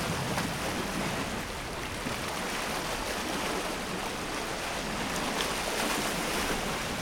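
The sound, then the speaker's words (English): Lake Michigan waves pound steadily against cliffs of fossil coral at Cave Point State Park, a dense, continuous roar of water with a hollow low booming underneath as the sound reflects in and out of rocky shore caves, with no voices. “If you listen closely to the recording, you can hear a hollow booming as the sound of the waves is reflected in and out of the rocky caves on the shore.”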